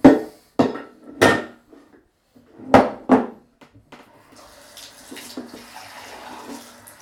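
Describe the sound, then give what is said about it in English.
A few sharp knocks and clatters, then water is poured out to wash away mixed yellow, blue, green and red paint, a steady, soft splashing rush that continues at moderate volume until the end. “And then we can wash it all away.”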